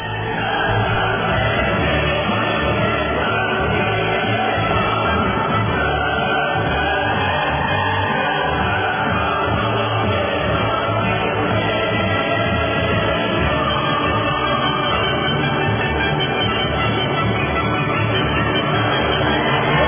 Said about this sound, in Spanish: Pero bueno, vaya para los amigos de la Biblioteca de San Marcos, el himno de la alegría y los aplausos.